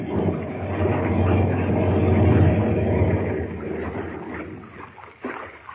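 A seaplane touches down on water: a loud, steady engine roar mixed with rushing, splashing water that eases off toward the end, with no voices.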